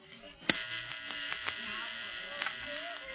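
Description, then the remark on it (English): A steady electronic buzz from a radio set turned on inside a plane, the octopus signal, a harsh band of noise with brief clicks and pulses, the first sharp one early on, under faint background voices. “Listen, the octopus signal.”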